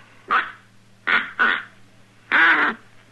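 A duck call blown in four short, nasal quacks: one, a quick pair, then a longer final honk, loud over a faint steady hum, with no talking.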